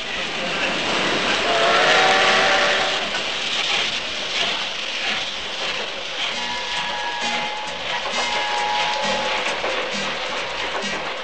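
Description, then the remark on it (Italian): A train rumbles and clatters steadily along the tracks, a dense, continuous rattling roar with faint metallic squeals and tonal whines rising above it, fairly loud. “Cullata dallo sferrangliare del treno e dopo aver fatto gran festa al picnic organizzatole dai suoi amici”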